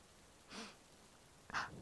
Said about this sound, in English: Just love how it feels when there's a storm. The breeze, the way it smells coming off the lake.